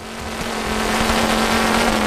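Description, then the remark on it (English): A chainsaw powered by a V8 car engine, built by a South Australian farmer, roars, holding a loud, steady rev with a droning low hum for about two seconds, with no voices. “So he built a very special edition using a V8 car engine, which you just heard then.”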